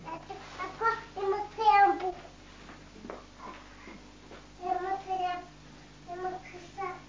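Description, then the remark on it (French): A young child upstairs whimpers and cries softly in a few short, wavering bursts, faint, separated by brief quiet pauses over a low background hum. “Tu n'entends pas des petits pleurs?”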